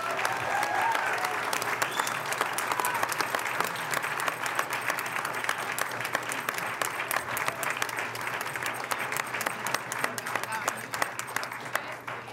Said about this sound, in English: Let's give the Pomona Panthers football team and coaches a round of applause for their excellent performance.